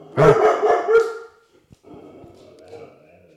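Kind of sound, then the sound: animal, dog barking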